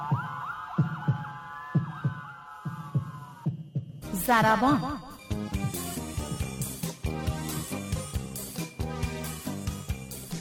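A steady, low thudding heartbeat pulses for a few seconds beneath a sustained electronic tone, then loud music abruptly takes over with its own beat.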